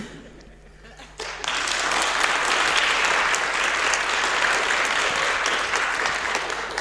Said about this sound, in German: Ihr wisst, wann ihr klatschen müsst.